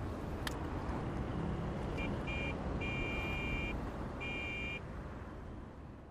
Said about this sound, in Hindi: ठीक है, लेकिन इस वक्त मेरे सामने जो ट्रैफिक है उसके मद्देनजर मुझे रात भी हो सकती है।